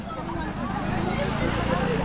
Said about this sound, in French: Derrière le vacarme des voitures et des motos qui déambulent dans l'ancienne médina de Casablanca, en tendant l'oreille, on entend le cri des enfants.